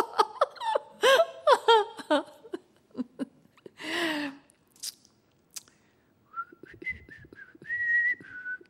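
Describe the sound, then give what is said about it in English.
A woman whistles a wavering tune in the latter part, preceded by bursts of giggling and vocal noises, moderately loud. “The woman began to whistle.”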